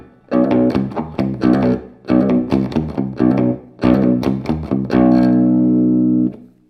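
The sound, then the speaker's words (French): Slow, chunky palm-muted chords on a heavily distorted electric guitar, a riff deliberately played slowly, a series of short chugging hits in a halting rhythm that ends on one longer ringing chord, loud with no voices. “Et je vous joue tout ça au ralenti avec la distorsion pour avoir le son.”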